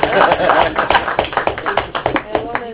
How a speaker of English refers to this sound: Now you can clap hands for the minister.